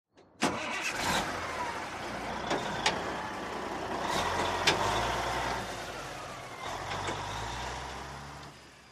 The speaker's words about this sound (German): Ich bin das große Müllauto. Die Mülltonnen werden in meinen dicken Bauch geleert. Dann fahre ich den Müll zur Müllkippe.